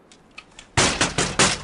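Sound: knocking on a door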